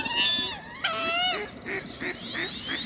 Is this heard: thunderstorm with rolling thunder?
no